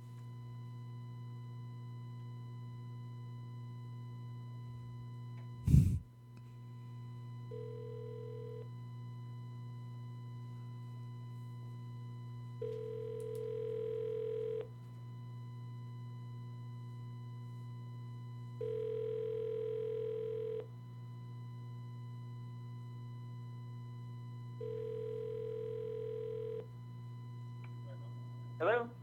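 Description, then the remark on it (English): An outgoing phone call on a speakerphone, to a man traveling on a cell phone, to connect him to a meeting: after a click, four evenly spaced ringback tones sound over a steady electrical hum, each about two seconds long with pauses between. “We're going to try this one more time because he had asked us to connect him to the meeting.”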